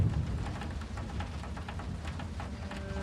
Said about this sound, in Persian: به محض تموم شدن این بارون از این چاله خارج میشم و میام.